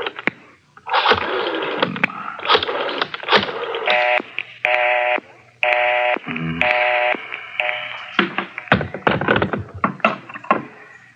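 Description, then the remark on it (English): A telephone is dialed, with 9 being dialed: a run of clicks and rattling mechanical bursts, broken by several short steady tones, with no one speaking. “Wait a minute, just a minute. Dial 9.”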